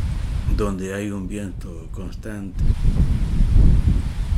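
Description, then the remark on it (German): A voice speaks briefly over a low, steady rush of permanent wind at Tambores, a village of about 1500 people on a hill surrounded by land and wide steppe. The wind then swells into a louder, rumbling gust buffeting the microphone once the talking stops. “Tambores wird auch der Ort des Windes genannt, denn er liegt auf einem Hügel und es weht ein permanenter Wind.”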